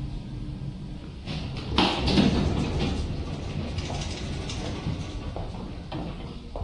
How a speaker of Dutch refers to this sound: Ik ga hier nu weer een sleutel om die deur open te krijgen. Ja, oké. Okay. Ja, we zitten hier echt in een kelder, hè? Onder de grond.